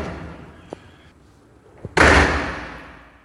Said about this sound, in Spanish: Así salí de allí y cerré la puerta tras de mí.